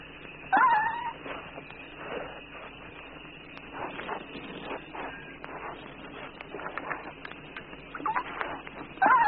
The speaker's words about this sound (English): one may just catch this sound of a baby gray duiker, a small buck, calling softly to its mother for reassurance.